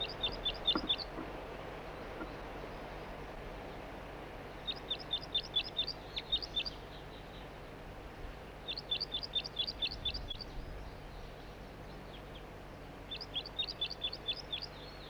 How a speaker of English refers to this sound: It's recording the same bird. It's not a red male. A juvenile. Does not appear to be banded.